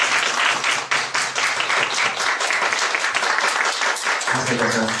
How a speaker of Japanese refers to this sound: まず歓迎の拍手をしたいと思います。